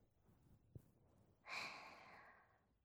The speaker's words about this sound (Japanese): おお、大きなあくび。